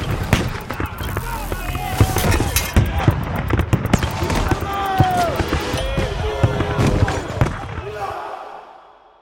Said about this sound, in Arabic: وقت ما حاولوا يهاجموا سفينة مغولية أكبر ومسلحة أكثر من البلستريل، أخذت السفينة ضربات شديدة، كم طلقة مدفعية خرمت هيكل السفينة وشراعها.